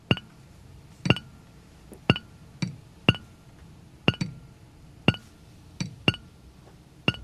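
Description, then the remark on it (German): About a dozen water drops, a radio-play sound-effect prop found in a radio-play archive, plink one after another at an uneven pace, each a sharp, bright, ringing drip over a quiet background, with no voices. “Also in einem Hörspiel wird ja oft Wasser benutzt, das Geräusch von einem Wassertropfen.”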